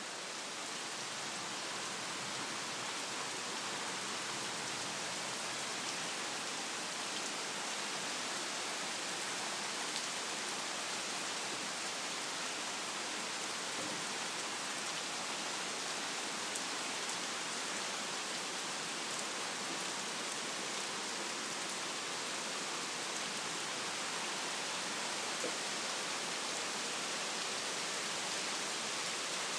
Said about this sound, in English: This is how a tropical storm sounds in the tropical North Carolina. And you can hear a little bit of the thunder, but it's not very close, so it's just every so often. Not very loud and persistent yet.